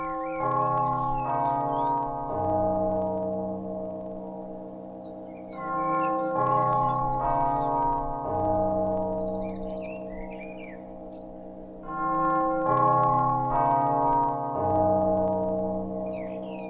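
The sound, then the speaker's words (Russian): A bell rings melodically in repeating phrases, several bright tones sounding in turn and leaving a long, sustained hum between strikes. Birds chirp faintly in the background. “Тягостное раздумье прервал мелодичный звон колокола.”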